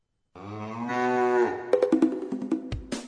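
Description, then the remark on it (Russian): Cattle lowing as a herd ambles down a sloping bank to a watering place, driven by a herdsman: one long, drawn-out, harmonic moo swells and fades, then a burst of rapid clattering knocks and shorter bellows follows, ending in a low thump. “По отлогому берегу к водопою лениво плетется стадо”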